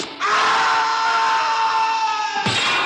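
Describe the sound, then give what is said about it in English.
A movie character's loud, drawn-out scream while falling, holding steady for about two seconds with the pitch sagging slightly before it cuts off abruptly; not a Wilhelm scream. “Thank God, no Wilhelm scream.”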